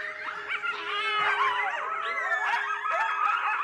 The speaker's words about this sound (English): And New Mexico, like a lot of the United States, is also home to one of their biggest predators, an animal that has not only adapted, but thrived through human expansion, the coyote.